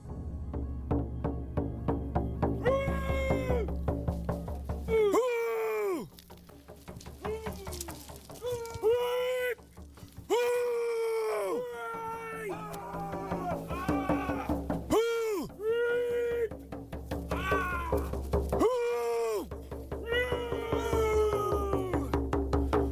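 A ceremonial vocal performance breathing life into a carved pole at a potlatch, before the pole is raised: a voice gives a series of drawn-out, wavering, animal-like calls with pauses between them, over a steady low background rumble.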